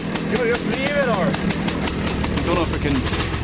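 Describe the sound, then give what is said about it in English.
A small motor engine starts and runs with a rapid, steady chugging, fairly loud throughout, while several voices call out over the noise, as an English team gets their motor started. “The Sassenachs rub salt in Scottish wounds as they get their lovely motor started.”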